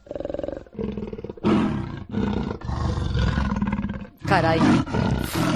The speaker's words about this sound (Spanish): Por poco que te guste, es muy difícil confundir este aullido con el rugido sordo de un leopardo que suena así.